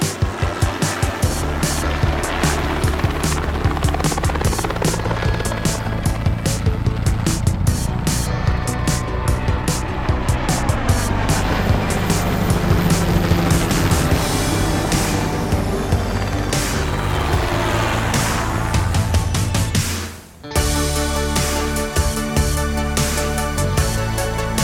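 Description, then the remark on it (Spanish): A loud, dense instrumental theme tune of the helicopter section Vuelo estacionario on the radio program Aerovía plays continuously with a steady driving pulse and engine-like roar mixed in, cutting out for a split second near the end before resuming. “La sintonía de vuelo estacionario aquí en Aerovía, nuestra sección para hablar del mundo del helicóptero”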